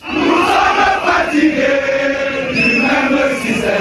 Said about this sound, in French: La foule n'a cessé de grossir devant le siège du MRC. Au fil des heures et sous un soleil de plomb, ils étaient plusieurs milliers à chanter à la gloire de leur leader.